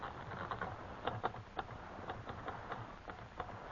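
household object, typing on a typewriter

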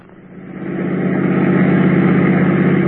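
vehicle, car engine running

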